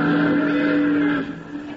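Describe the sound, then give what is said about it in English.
A steamboat whistle blows in one long, steady, loud blast with a low, reedy tone and strong harmonics, holding for over a second before cutting off abruptly. “Doggone it, Bill, you blew that whistle on purpose, just so you couldn't hear my singing.”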